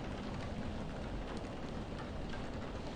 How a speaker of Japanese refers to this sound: 雨宿り？ああ、つい今さっきになって急に降り出したね。しかし、真夏というわけでもないのにこんな嵐なんて。しかも今日の天気予報は降水確率 20-30% の晴れだったはずだが。